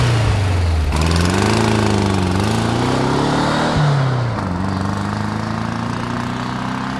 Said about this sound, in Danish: Bondemanden var åbenbart ikke mere tørstig, for midt i det hele kom han ud fra kroen, satte sig ind i bilen og kørte.